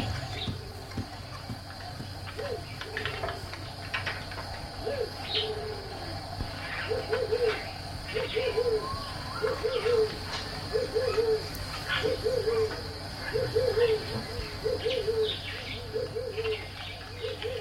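Turtle doves coo in a steady, repeating series of soft, low notes, somewhat distant, resounding through the bush around a village, over a constant buzz of insects and outdoor background noise.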